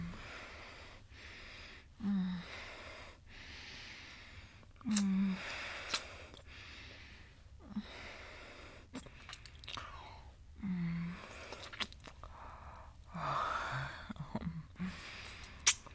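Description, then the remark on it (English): A male dog pants in steady, breathy huffs, breaking into a few short, low moans and one brief higher whine near the end; quiet overall, with no talking. “Look at my good boy moaning and panting.”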